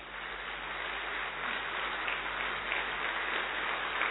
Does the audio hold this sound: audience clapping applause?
yes